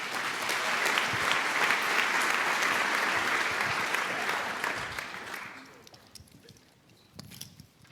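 A dense burst of audience applause congratulating an accepted marriage proposal, many hands clapping steadily for about five seconds before fading out into a few scattered claps and quiet murmurs.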